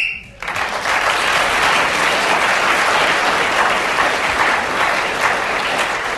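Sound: audience applause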